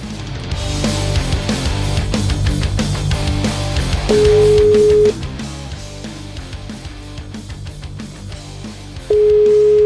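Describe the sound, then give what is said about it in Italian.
A telephone ringback tone sounds twice while calling a home phone number, each a steady one-second beep spaced about five seconds apart, clear and loud over busy background music with no one speaking. “Meno male che c'ho il numero di casa, chiamiamo, dai.”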